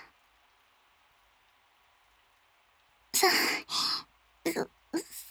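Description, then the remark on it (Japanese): A steady, even wash of heavy rain that has been growing stronger hisses in the background, then several loud, breathy sighs or exhales come over the downpour. “そういえば、雨、強くなってきましたね。先輩の家に着いた時は、もう少し弱かったのに。”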